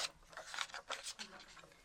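Sheets of paper rustle and crinkle in several quick, uneven bursts as worksheets are handed out in batches of five, six and four, fairly soft.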